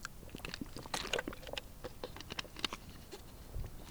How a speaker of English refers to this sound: Once you get to Quartzsite, I got to take a sip of water.